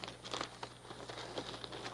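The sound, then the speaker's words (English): Soft, intermittent crinkling and rustling of paper being handled and smoothed onto a drawing board and fixed with tacks, quiet, with no one speaking and a low steady hum underneath. “Okay, let's get the paper on here.”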